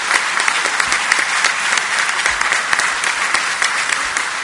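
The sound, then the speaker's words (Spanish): An audience applauds municipal and departmental officials at an event attended by the President of the Republic, a dense, even wash of many hands clapping at once, sustained and fairly loud throughout with no voices standing out. “agradecer al Presidente de la República que esté en esta instancia, que por suerte está colmado de gentes y gente que son funcionarios municipales y departamentales, a los cuales le pido un aplauso porque es muy importante que ustedes estén aquí hoy.”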